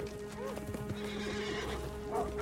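Several horses gallop close by, their hooves pounding in a rapid, continuous clatter, while a horse whinnies sharply near the start and again near the end.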